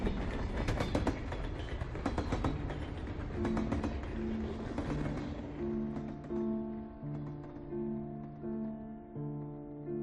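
A train rolls past, its wheels rumbling and clattering in quick irregular clicks over the rails, then settling into a steadier roar as sustained tones rise over the noise.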